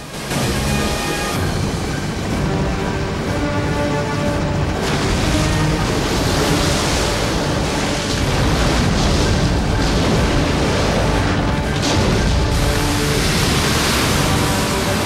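A heavy, roaring cascade of water pours down steadily as helicopters empty the tanks attached to their underbellies onto a lava flow, loud, with a low droning engine hum running beneath the rush. No one speaks.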